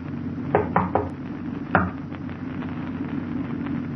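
A quick series of three sharp knocks on the locked door of a special storage room, then a single knock a moment later, against a low steady hum. Nobody speaks.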